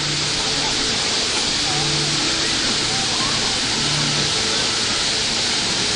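A waterfall roars steadily throughout, a dense, continuous rush of falling water with no breaks, fairly loud, with faint murmuring voices buried beneath it.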